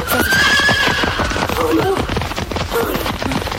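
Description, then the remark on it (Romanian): A huge runaway horse, escaped from a stable, whinnies loudly with a long rising-falling call while its hooves pound in a rapid clatter, the galloping rhythm continuing steadily throughout. “Ăsta a scăpat din grajdul sultanului! Numai acolo se asemenea namile de cai!”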